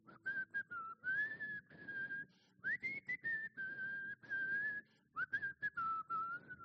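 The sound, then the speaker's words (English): A person whistles a wavering, tuneful line in three long phrases, fairly loud, with brief breaths between them and some rustling beneath. “They are whistling.”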